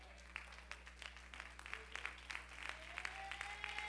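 An audience stands and claps their hands in praise to God, a dense, steady patter of many overlapping claps at moderate volume, with a faint rising tone humming underneath.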